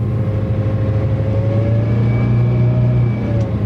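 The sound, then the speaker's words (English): A local bus engine drones loudly and steadily as the bus turns off the interstate, a deep rumbling hum with faint whining overtones that shift slightly in pitch as the vehicle changes speed. No one talks. “Hey, we're turning off the interstate. Yeah, this bus is a local.”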